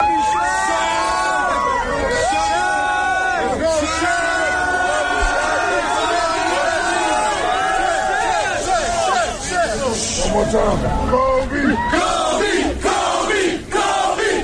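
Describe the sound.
A large crowd of fans chants and shouts together outside Staples Center in Los Angeles as Shaquille O'Neal leaves, his voice leading the chants for his former teammate; loud and continuous, with voices rising in rhythmic, sustained calls and bursts of yelling.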